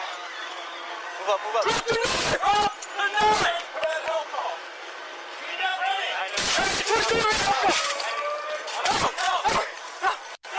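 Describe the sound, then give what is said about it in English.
A series of loud, sharp beanbag shotgun blasts fired by LAPD officers at a man with a knife goes off in irregular clusters, some in quick succession, while the officers' raised, indistinct voices, repeatedly ordering him to drop his knife, carry on between and under the shots. “And you can hear them shooting beanbags, beanbag ready, as they order him repeatedly to drop his knife.”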